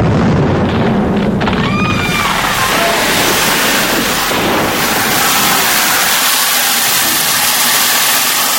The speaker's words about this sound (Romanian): O explozie. Totul a sărit în aer.